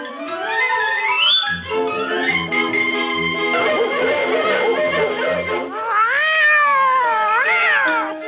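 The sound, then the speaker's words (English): A white kitten, chased up a tree by a dog in a CBS Radio Workshop drama, meows loudly with drawn-out, wavering cries that rise and fall in pitch at the start and again near the end, over a steady tonal backdrop. “Dog has got a white kitten up a tree.”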